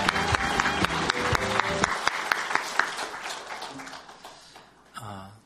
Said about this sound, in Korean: 네, 따뜻한 박수를 한번 격려할까요?